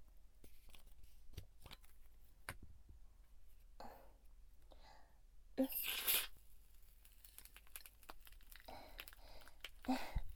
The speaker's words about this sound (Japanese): どうでしょう。パチパチといった音が不思議ですよね。このまま優しくお耳をマッサージしていきますので、音を楽しまれながらゆったりとリラックスしていてくださいね。